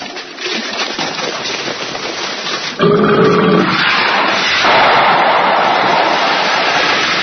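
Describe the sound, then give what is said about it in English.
A loud, low, rumbling belch bursts out abruptly and lasts about a second, set against a steady rushing hiss that runs throughout and continues after it. “Boy, that was some belch.”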